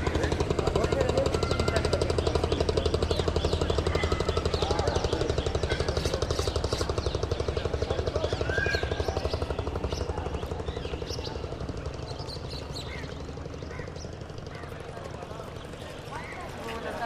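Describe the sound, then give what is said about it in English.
A boat engine chugs steadily with a rapid, throbbing rhythm on the Ganges River, loud at first, then slowly fading as the boat moves away along the river, with faint voices in the background. “This boat going by, out on the Ganges.”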